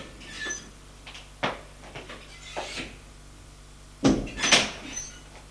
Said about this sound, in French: Le médecin frappe à une porte et entre.